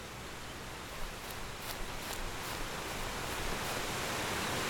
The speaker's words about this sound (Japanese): これが滝。あと川。そしてこれが水。 あ、冷たい。 天気も気温も過ごしやすいのに、水は冷たいのか。